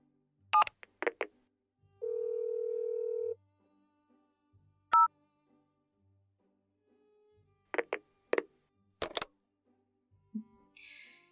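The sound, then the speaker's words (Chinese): Phone keypad tones beep in short, separate presses as someone dials a phone to call their boss, interrupted by a steady held tone lasting about a second, then more scattered key beeps follow, clear with no one talking. “那你打电话问问你们老板吧。”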